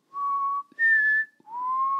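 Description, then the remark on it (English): A clear three-note whistle heard on a beach in the pitch-black night: a steady low tone, a jump to a higher note, then back down low with a slight upward slide, each held about half a second. “While she was alone on the beach in the pitch black night waiting for the boat, mistake number one, she heard something. A low, high, low whistle.”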